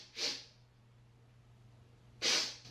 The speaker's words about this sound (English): I don't see no waterworks. She keeps sniffling, but I don't see no tears. Maybe the camera ain't close enough.